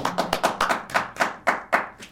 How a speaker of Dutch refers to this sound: Ja. Nou, applaus.